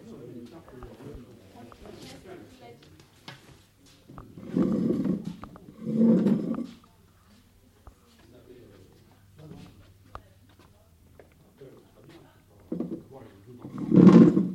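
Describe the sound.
A chair is fetched, carried over and set down for someone to sit on, with a few loud scraping thumps and bumps standing out over quiet, murmured talk.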